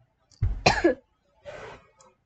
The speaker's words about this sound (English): And I'm recovering from my illness, thank goodness. Still have a bit of cough and stuffy nose, though.